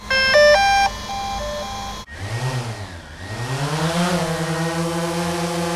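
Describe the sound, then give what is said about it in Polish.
A quick melody of electronic startup beeps plays, then after a short pause a drone's motors whir up, their whine wavering in pitch before settling into a steady rising hum. No one speaks. “Teraz włączamy drona.”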